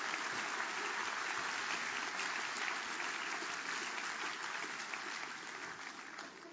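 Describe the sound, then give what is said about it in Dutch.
Sustained applause from a crowd for the children during a service, a dense steady patter of many hands clapping at an even loudness that tapers slightly toward the end, with no voices standing out. “Applaus jongens voor de kinderen.”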